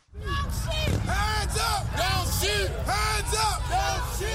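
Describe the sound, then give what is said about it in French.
A crowd of protesters marching through the city of Baltimore against police brutality shouts and chants, many voices raised together in repeated rising-and-falling calls over a steady roar of babble, loud and continuous throughout. “Mais en l'air, avec des éclats de voix, les manifestants ont défilé pendant des heures dans la ville de Baltimore.”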